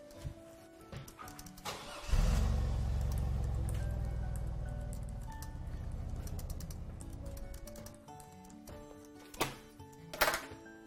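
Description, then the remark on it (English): A car engine turns over and starts, then rumbles loudly and steadily for several seconds before dying down, with a few sharp clicks and knocks at the end, as the car is driven to the mailbox to get the mail. No one speaks. “What did you use the car for?”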